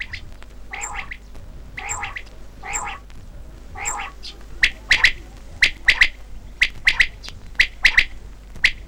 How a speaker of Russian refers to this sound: Закатится солнце, а с полей заслышится перепелиная перекличка. Дай попить, дай попить. А ему отвечают с ваваканьем. Спать пора, спать пора.